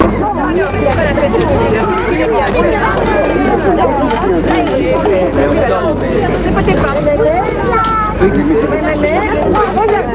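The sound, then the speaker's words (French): Dense crowd hubbub at the Part-Dieu station, many overlapping voices blending into a steady, loud murmur with no single speaker standing out, over a low constant hum. “Là, il se perd dans la foule.”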